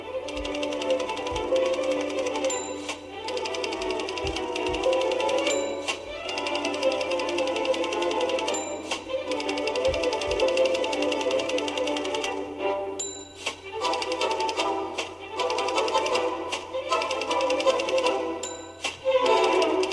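Rapid mechanical typing on a typewriter with dense clattering keystrokes and periodic bright bell dings followed by carriage returns, continuous, with no voices.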